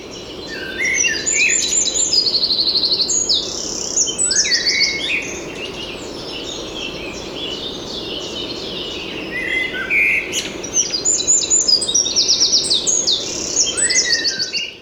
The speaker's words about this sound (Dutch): Nou, de vogel die we hier laag horen, dat is een winterkoning. Okay. Die zit hier in de bramen, ergens laag. Misschien rondom die boom in dat donkere stuk in deze struik wellicht. Ja. En wat je daar hoog hoorde was een merel.